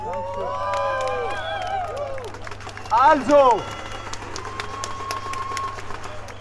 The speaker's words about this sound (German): möchte dich bitten, machst du den ersten Applaus für unseren ersten Redner.